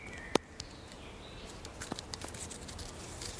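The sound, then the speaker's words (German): A small plastic film canister used as a geocache, hidden in a hollowed-out stone beside a tree, snaps open with one sharp click. Faint scattered rustling and handling noises follow against a quiet outdoor background. “Der Cash, ein Filmdösli. Der Philipp Oberli macht es auf.”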